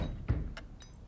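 Three quick, dry wooden knocks at uneven intervals as the doors of a built-in wooden cabinet behind a desk rattle in their frames. The clatter is fairly quiet, over a low background rumble.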